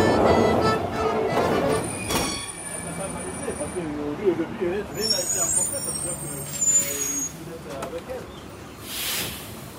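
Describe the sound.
Inside a city bus: a steady low engine rumble with high squealing brake tones, sharp bursts of air-brake hiss partway through and again near the end, and faint muffled voices in the background.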